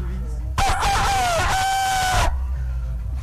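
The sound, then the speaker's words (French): A loud cock-a-doodle-doo crow lasting under two seconds, with a strained, wavering pitch that drops toward the end: a person's voice imitating a rooster as the first attempt in a rooster-crowing contest, with quiet background before and after. “Ah, un joli coq pour ce premier essai.”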